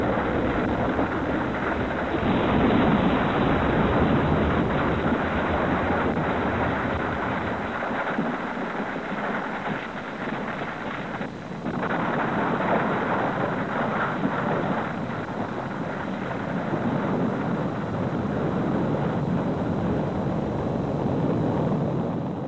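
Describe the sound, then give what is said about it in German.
A deep, sustained rumbling roar of volcanoes, earthquake and thunder, loud, surging and churning without pause for the whole stretch, with no voices; one of the Earth sounds on a NASA record made to explain Earth to extraterrestrials. “Vulkane, Erdbeben und Donner.”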